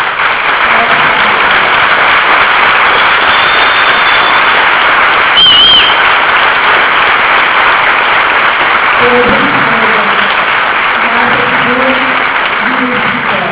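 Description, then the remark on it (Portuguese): Steady, dense audience applause, asked for by the host as an event closes with thanks for attending, fills the whole stretch, a continuous crackle of many hands clapping at an even, loud level, with faint voices murmuring underneath toward the end. “quero pedir as palmas.”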